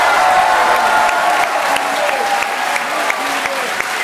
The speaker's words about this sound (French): Bravo, ils s'applaudissent eux-mêmes, ils ont raison.